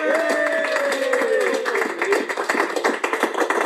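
A crowd on BBC Radio Stoke on Christmas Eve 2014 claps steadily and loudly, a dense patter of many hands throughout, with a drawn-out cheer or whoop sliding downward over it at the start.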